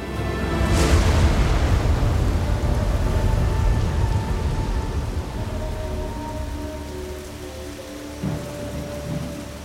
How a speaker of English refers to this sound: Sita loved the rain. She pushed open the door to their hut and looked out at the river. When she lived in the castle, she used to hate rainstorms. It meant she'd be trapped inside. But here, in this forest, rain made the day feel like an adventure.